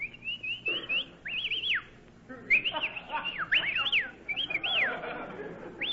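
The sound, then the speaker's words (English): People whistling in a series of sliding, rising-and-falling tones, with several short bursts repeated close together over a low background hum. “Well, we may as well whistle at each other.”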